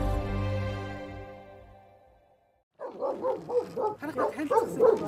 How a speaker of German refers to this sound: Gleich hinter dem löchrigen Lattenzaun ihres winzigen Hofs bellt ein Hund und zerrt an einer Kette.